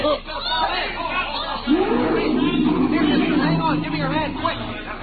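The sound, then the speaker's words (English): A crowd of kids and grown-ups mills around at the lion pits of a zoo, by an iron railing along a moat, many overlapping voices chattering at a steady, busy level, with one voice rising into a drawn-out call partway through. “I drifted close with the rest of the crowd, leaned over the iron railing that ran along the edge of the moat, and then...”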